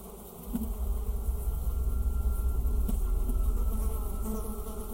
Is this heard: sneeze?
no